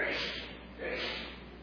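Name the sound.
sneeze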